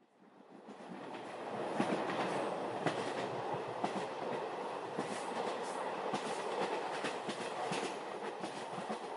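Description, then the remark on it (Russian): An electric commuter train clatters steadily along the rails, with a rhythmic clickety-clack of wheels over joints and a constant loud rumbling roar throughout, with no voices. “С этими электричками одна морока. То не войти, то не выйти.”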